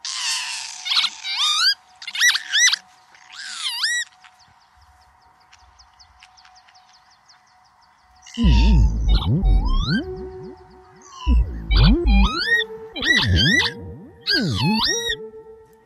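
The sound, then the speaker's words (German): An imitated northern lapwing call: bursts of swooping, rising-and-falling whistles, loud, pausing briefly midway before returning with deep, booming pulses beneath the calls. “Wir hören mal in einen Auszug rein, wie sie den vertont haben, bevor wir dann über den Kiebitz und sein Problem sprechen.”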